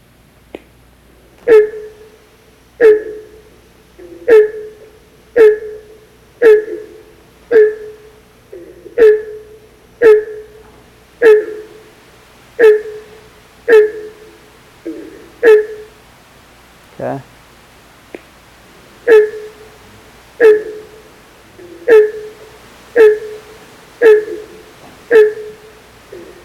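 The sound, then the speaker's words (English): A steady series of loud, raspy honks, around twenty in all, repeating at an even pace of roughly one per second, with one brief break partway through. Mid-pitched and nasal, with no voices. “And they have a pretty diagnostic call, kind of a steady raspy honk, kind of sounds like maybe a beagle that has treed something or chasing a rabbit, or maybe a Canada goose.”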